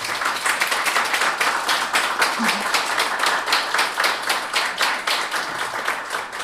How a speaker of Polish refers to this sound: Wyróżniamy także wydawców, także oklaski należą się wydawnictwu.